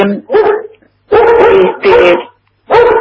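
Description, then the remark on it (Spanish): A pet dog barks and whimpers in a handful of short, loud, whiny bursts separated by brief pauses. “Viste que levanto perros de la calle.”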